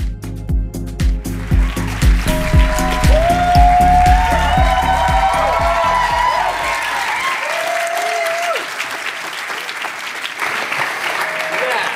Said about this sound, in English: you got such a bigger clap than I did. It's good, wasn't it?